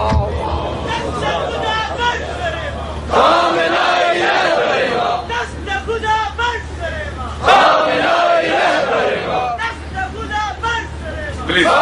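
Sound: crowd chanting religious slogans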